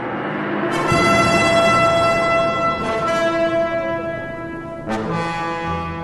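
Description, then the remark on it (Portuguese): Priests blow horns: loud, sustained blasts sound together in a rich, brassy chord, with fresh blasts entering in three staggered waves and holding steady throughout, with no talking. “Então os sacerdotes tocaram as cornetas.”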